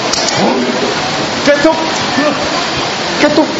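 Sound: heavy rain falling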